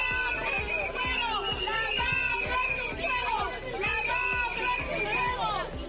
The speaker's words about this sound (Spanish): Durante poco más de media hora, este grupo de jóvenes ha gritado diferentes lemas y ha exhibido pancartas con textos contra el Ministerio de Educación.